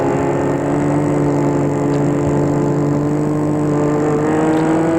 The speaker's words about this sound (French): elle va garer sa voiture dans une rue encore plus lugubre que les autres, étroite, sans lumière.